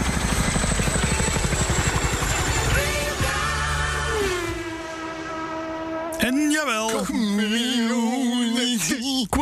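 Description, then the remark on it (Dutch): A helicopter's rotor thumps in a rapid, steady chop, loud, then gives way to a rising engine whine. A voice comes in over the last few seconds. “Het enige dat we gemist hebben is de helikopter.”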